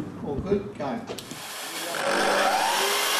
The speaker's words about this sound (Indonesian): Sebuah bengkel di Brisbane tampak terdengar dan tercium seperti fasilitas pembubutan kayu biasa. Namun di tempat ini, indera peraba menjadi prioritas.